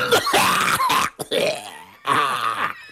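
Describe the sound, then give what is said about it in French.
A person imitates a man's loud, harsh hacking cough: three rough, gravelly bursts, each strained and throaty, separated by brief pauses. “Et sa particularité de ce monsieur-là, c'est qu'il tousse. Mais il ne tousse pas discrètement, plutôt...”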